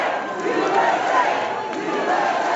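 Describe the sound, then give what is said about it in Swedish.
A large audience in the Kennedy Center auditorium roars with a dense, sustained mix of booing and cheering as President Trump and his wife Melania enter, a continuous wall of voices at steady loudness throughout. “hans fru Melania möttes av både burop och applåder när de gjorde entré i salongen på Kennedy Center.”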